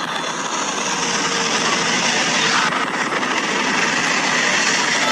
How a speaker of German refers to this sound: Also das Rauschen ist vom Helikopter.